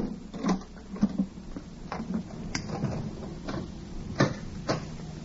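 A door being opened for a visitor: a series of short wooden clicks and knocks, several sharp handling sounds over about five seconds, with no voices.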